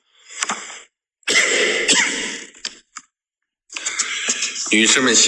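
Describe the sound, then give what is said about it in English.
A man coughs violently in loud, harsh, rasping bursts, three clusters separated by brief pauses, with no other sound around them. “Violently coughs.”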